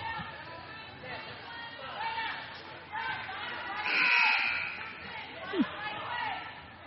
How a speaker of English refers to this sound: Now a bunch of whistles from way off the ball.